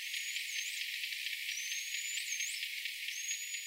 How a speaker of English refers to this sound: They used automated software to fish out 200 bottlenose dolphin whistles from the noise and visually compared the spectrograms. Now here's what a normal whistle sounds like.